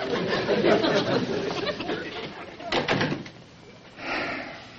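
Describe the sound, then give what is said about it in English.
A door shuts with a short, solid thud partway through as a visitor leaves, amid indistinct murmuring voices and shuffling room noise, followed by a softer rustle near the end. “would you mind closing the door on the way out?”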